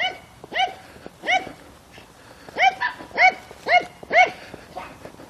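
A dog barks repeatedly in short, sharp bursts, about seven barks spaced unevenly over a few seconds, loud, with no one talking.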